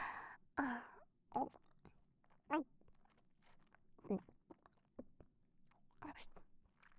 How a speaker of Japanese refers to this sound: ダーリンが私の口に入ったものを咀嚼してる姿、いい？